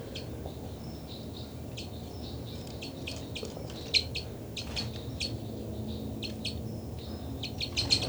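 Flight calls of birds 273 and 274 flying across: brief, high-pitched chirps repeating in quick irregular clusters, some louder than others, over a steady low rumble with no talking.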